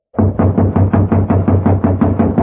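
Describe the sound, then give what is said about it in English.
Someone pounds on a locked door to wake a man asleep inside, in a fast, steady series of about a dozen heavy knocks, loud, each thud booming with a low resonance. No one speaks. “You just have to keep knocking till he wakes up.”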